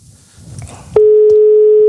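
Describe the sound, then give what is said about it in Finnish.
A telephone ringing tone of an incoming call during a live broadcast: after a second of low rustling, a loud, steady mid-pitched electronic tone starts abruptly and holds unbroken to the end. “Noni, nyt soittaa.”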